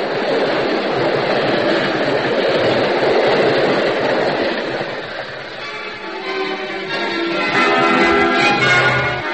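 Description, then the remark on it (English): A train passes through a station with a steady, loud roar of wheels and cars, then shifts to higher clanking and ringing tones as it moves on; no one speaks. “Remember, while that train is going through the station, a shot wouldn't be heard.”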